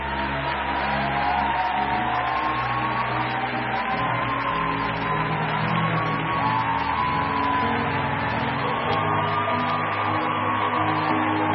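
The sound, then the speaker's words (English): Sustained audience applause as the audience celebrates a mother being helped down, a dense steady wash of many hands clapping without pause, blended with held musical tones underneath for the whole stretch. “Keep clapping till they go down.”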